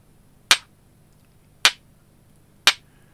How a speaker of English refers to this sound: Invite participants to make sounds with their stones at key points. Tap slowly for walking.